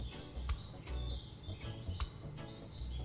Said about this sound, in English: Do you hear the birds?